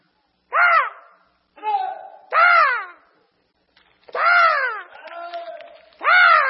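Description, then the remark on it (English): A person imitates the raven from the story of Elijah, giving five or six loud, harsh, drawn-out caws in an uneven rhythm, with short pauses between them. “Now imagine Elijah said, what on earth is that stupid raven doing?”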